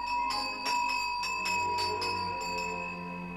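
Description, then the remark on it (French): Small hand bells in a house, a second and then a third, shaken furiously and repeatedly to call for breakfast, a bright, high metallic jingling with sharp strikes over a sustained ringing tone, with no voices. “Une deuxième clochette, puis une troisième clochette sont furieusement secouées.”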